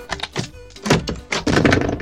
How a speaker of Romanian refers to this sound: Bunicul, după mai mult timp, le-a deschis ușa.